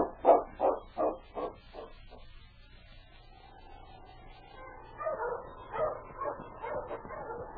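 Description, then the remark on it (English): Several sled dogs bark and yip in a quick rhythmic burst, then a drawn-out whine rises before the excited barking and yipping resumes, with no voices. “We'll get the dogs and start on this trail.”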